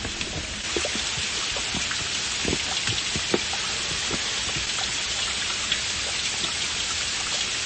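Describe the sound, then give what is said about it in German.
Steady, dense rush of a waterfall flowing through the jungle, with scattered splashy droplet impacts, recorded with the microphone held closer to the splashing water, constant throughout, with no voices present. “Aber jetzt werde ich mal mein Mikrofon etwas näher an das Plätschern des Wassers halten, damit Sie auch ein bisschen den Wasserfall hören können, der hier durch den Dschungel fließt.”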